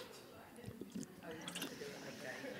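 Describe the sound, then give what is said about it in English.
Quiet liquid sounds of a speaker with a dry mouth sipping coffee or water, with soft drips and small splashy gurgles over a couple of seconds, a faint voice murmuring in the background. “And like I said, for some reason, I'm very dry, but can I have a sip of my coffee anyway? Or a little water?”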